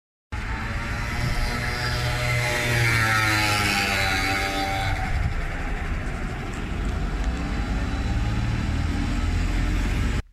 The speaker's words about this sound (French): Tout de suite, une mobylette en pleine accélération.